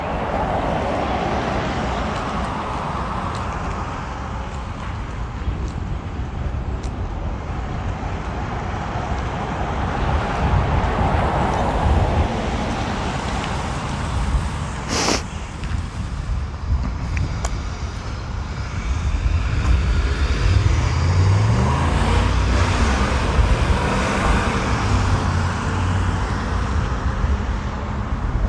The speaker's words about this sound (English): Much vehicle, many car. Wow.